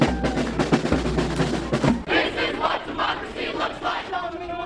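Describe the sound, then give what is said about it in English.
Tens of thousands of protesters at the Wisconsin State Capitol shout and chant against a Republican effort to end collective bargaining rights for public workers, a loud, continuous roar with a heavy low rumble under the first two seconds and rising waves of yelling voices after. “Tens of thousands of Wisconsinites from all walks of working life continue to storm the state capitol in ever-escalating protests against a Republican effort to end collective bargaining rights for public workers.”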